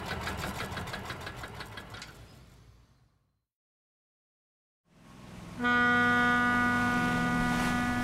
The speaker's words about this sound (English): In London, there's a big river called the Thames. There are many different boats on the river. This ferry goes up and down the river very fast.